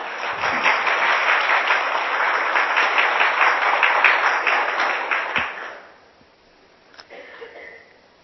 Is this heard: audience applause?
yes